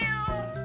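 A single cat's meow, fairly loud, a short drawn-out cry with a clear tonal quality and no talking over it.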